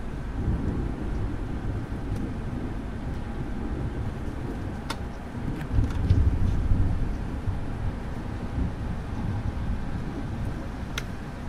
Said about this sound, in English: So let's hear some thunder anyway. And I'll be quiet for just a little minute. Can I open it? And it's still raining. Here we go.